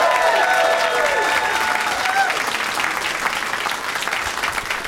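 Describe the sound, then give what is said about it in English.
Steady, loud audience applause at a comedy show, welcoming a stand-up comic, fills the whole stretch as a dense wash of clapping, with a few whoops and cheers rising above it early on before the clapping carries on alone. “Yeah, but let's meet them all individually and give them all an individual round of applause, starting with Austin comic, now Chicago comic,”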